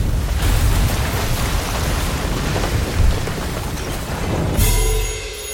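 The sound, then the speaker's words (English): A loud storm effect for a chaotic plague of howling wind, scattering sands and lightning under red clouds: a dense, continuous roar of wind and rain with deep rumbling thunder booms underneath, swelling again near the end. No one speaks. “The wind howls, the sands scatter. Red clouds blanket the sky and barely contain lightning as Set unleashes the most devilish, the most chaotic plague yet.”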